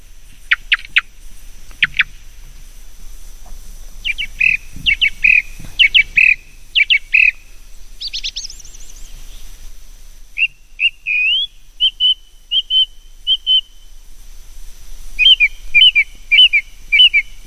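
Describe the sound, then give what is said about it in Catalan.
A thrush sings in short, clear whistled phrases separated by brief pauses, with some sharper rising notes mixed in, against a quiet background and no talking. “Estem escoltant un tord.”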